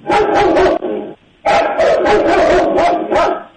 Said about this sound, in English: It's a dog.